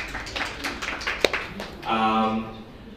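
A short burst of scattered audience applause welcoming a marketing director, irregular overlapping claps at moderate loudness with one sharp louder snap, fading as a voice starts speaking toward the end.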